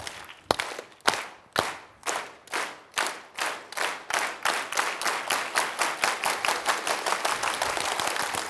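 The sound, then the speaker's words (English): A crowd does a "frequency clap" in unison, starting with slow, separate sharp claps that steadily speed up into a fast, continuous rhythmic clapping, growing denser and louder; no voices. “Get the frequency clap real quick.”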